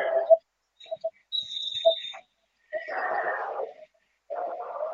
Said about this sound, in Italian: Viene fischiato un fallo. Kuchakons. Secondo fallo per lui.